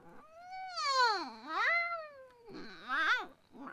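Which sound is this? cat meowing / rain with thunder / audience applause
cat meowing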